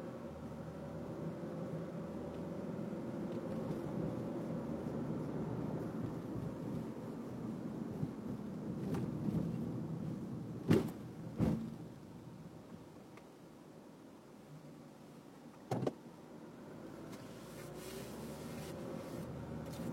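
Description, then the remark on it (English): Fire trucks rumble past with a heavy, steady engine drone that swells and then eases off, broken by a few sharp knocks or clanks. No one speaks. “Fire trucks doing fire truck stuff.”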